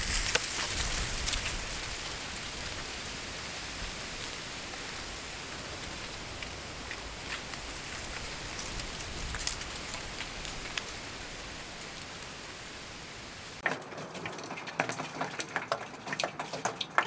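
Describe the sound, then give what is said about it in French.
Dry leaves roll and scrape along a sidewalk on rue Léon Jouot in the 3e at almost 4 o'clock, in a steady, dense crackling hiss with scattered sharper ticks, then thin out near the end into sparse, isolated skitters over quieter background. “J'aime beaucoup aussi le son des feuilles qui roulent sur le trottoir.”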